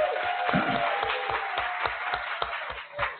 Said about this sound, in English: How about a big round of applause for Ralph Johnson here?